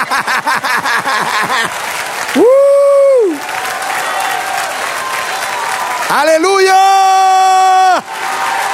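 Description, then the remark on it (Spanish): A crowd claps and cheers loudly throughout, with two long, high sung or shouted whoops rising above the steady applause. “Dale un aplauso.”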